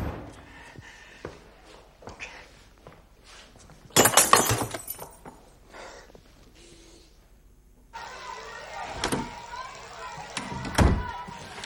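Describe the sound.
A sudden, loud crash as Bob Hope smashes a glass in his dressing room, with bright tinkling debris, amid background voices and room commotion; later, sharp clattering knocks punctuate a noisier stretch.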